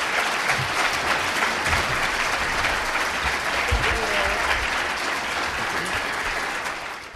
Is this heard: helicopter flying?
no